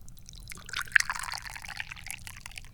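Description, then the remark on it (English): Tea is poured into a cup in one steady stream lasting about two seconds, a soft splashing trickle with a low background hum and no voices. “I guess we need to pour some more tea.”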